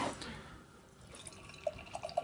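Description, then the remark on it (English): Beer is poured into a tulip glass, starting as a soft, steady hiss of liquid and building into bubbly gurgles and glugs near the end. No one speaks. “You hear that? Get that pour there.”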